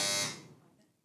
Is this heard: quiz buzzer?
yes